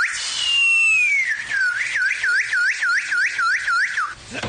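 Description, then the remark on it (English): A person whistles an imitation of a cardinal's call: one long, falling note, then about nine quick, evenly spaced swooping chirps, loud and clear with no talking. “I got to go with a little red guy in this one because he sounds a little something like this.”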